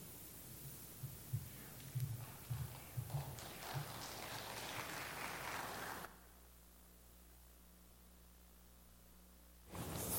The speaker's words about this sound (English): They're clapping because they're thankful I'm not reading.